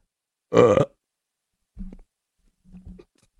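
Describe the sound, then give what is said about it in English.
A single loud, raspy burp rings out, followed after a pause by two softer, shorter low grunting sounds, with no talking. “To burp in front of your child.”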